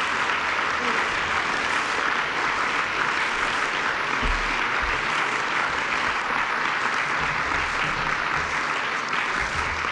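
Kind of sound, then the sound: crowd, audience applause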